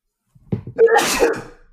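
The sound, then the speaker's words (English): A single loud sneeze: a short sharp intake followed by an explosive, breathy burst that trails off quickly, with no talking. “I can edit that out, though. All the sneezes and coughs.”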